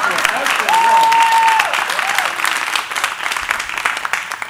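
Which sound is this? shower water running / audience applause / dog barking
audience applause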